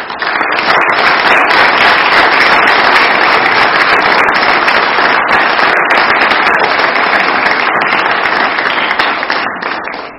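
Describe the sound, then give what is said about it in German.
Sustained applause from an audience in a church for performers, a steady dense patter of many hands clapping at high volume for about ten seconds, tapering slightly at the end, with no voices. “Und ich denke, das ist noch einmal einen kräftigen Applaus wert.”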